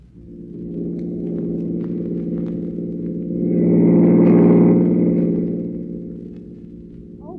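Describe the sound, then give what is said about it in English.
A car engine drones steadily in city traffic, its low throbbing hum swelling louder for a few seconds midway as if accelerating or passing, then settling back. No voices. “pass that car in front.”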